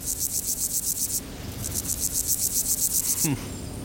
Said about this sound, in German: Ja, ich drück mal auf den Knopf vom gemeinen Grashüpfer. Das klingt irgendwie interessant. Gemein steht, glaube ich, für gewöhnlich. Also das ist nicht so ein fieser, hinterhältiger Möpp, aber der Grashüpfer. Drück mal drauf, wie klingt der?